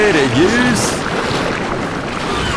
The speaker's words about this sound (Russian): Волна близко!